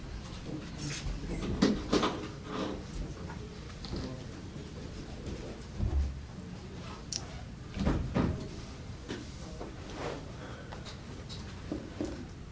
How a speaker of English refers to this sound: will you close those doors back there? Can you do that? Please.